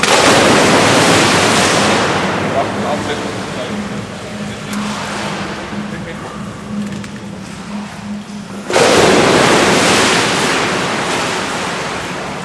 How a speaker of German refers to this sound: Das ist kein Naturpool, ganz im Gegenteil. Es ist Löschwasser in einem Betontank auf dem Dreispitz. Am Parkhaus, am Leimgrubenweg, steht ein riesiges Silo, wo ein Wasservorrat ist.